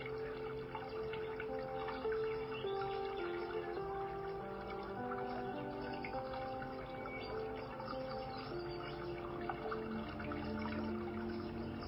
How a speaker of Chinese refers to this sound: 那大家可以花一点时间先感受一下你的呼吸，也可以听一下流水的声音，或者你周遭的声音。